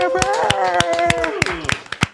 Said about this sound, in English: Round of applause, guys.